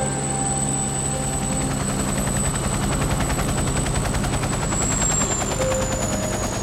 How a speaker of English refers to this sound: The pilot flicks some of the switches and pulls a lever, and the helicopter begins a sharp descent through the clouds.